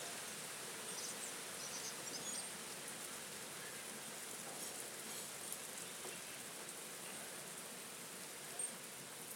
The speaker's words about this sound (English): I'm getting my hair a bit wet. Stopping again now. Here we go. More rain.